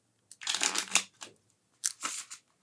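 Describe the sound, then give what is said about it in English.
Two quick riffle shuffles of a deck of cards, each a short, crisp, papery burst, separated by a brief pause. No voices. “I think I'm pretty well shuffled.”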